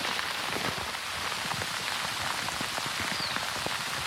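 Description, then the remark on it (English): A heavy downpour in an African rainforest one afternoon roars steadily, a dense wall of hissing rain with countless sharp drops pattering and splashing throughout, loud and unbroken with no voices. “The first dense wall of water falling like a freight train approaching.”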